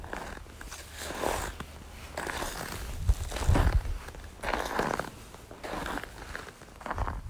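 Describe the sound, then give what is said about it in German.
Boots crunch through snow in a quiet winter landscape in a steady walking rhythm, each step a soft, gritty crackle, with quiet pauses between footfalls and no voices. “Während du weitergehst, hörst du, wie der Schnee unter deinen Stiefeln knirscht.”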